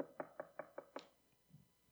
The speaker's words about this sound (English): And he knocks a little louder. And he knocks a little louder.